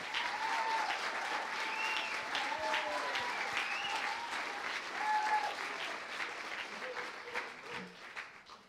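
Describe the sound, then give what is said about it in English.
A large audience at Word of Deliverance stands and claps steadily for a woman in dense, sustained applause, with scattered voices and faint whoops mixed in, the clapping thinning out and fading toward the end. “So if you can just stand and clap for her.”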